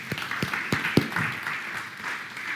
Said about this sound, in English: You 4. Fantastic. A wee round of applause because that takes guts.